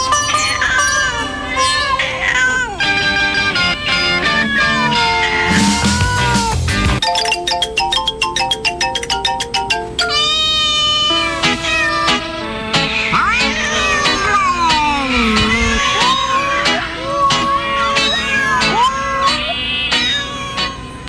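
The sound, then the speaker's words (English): A dense string of cat meows and yowls from cats of different countries around the world, many cats one after another and overlapping, with some drawn-out caterwauling and a rhythmic stretch of short repeated mews, loud with no talking. “But here is an international tribute to cats from around the world.”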